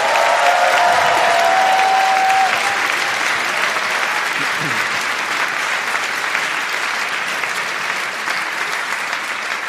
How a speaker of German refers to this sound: Und bevor wir loslegen, darf ich bitte mal einen tosenden Applaus für unsere wunderschöne DJ haben.